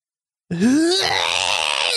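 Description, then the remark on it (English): A tennis player's grunt in slow motion: a drawn-out, slowed-down grunt with a low, rising then sliding pitch that swells into a loud, rough, strained groan lasting over a second, with no talking. “I feel like that's going to be a tennis player in slow motion, too. That is correct.”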